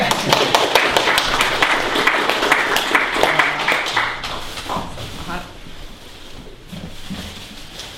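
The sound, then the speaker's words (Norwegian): A room of people applauds to welcome Bjørn Erik Thon, director of Datatilsynet, as a speaker: a dense patter of many hands clapping for about five seconds before it thins out into scattered claps and low murmuring. “Vær så god, forslå at vi klapper litt.”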